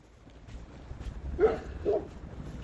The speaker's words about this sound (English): Oh, I hear a dog.